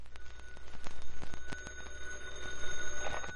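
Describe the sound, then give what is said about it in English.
A telephone bell rings after midnight, continuously with a rapid, rattling clatter over steady metallic tones, running unbroken for about three seconds with no one speaking. “It was after midnight when the phone rang.”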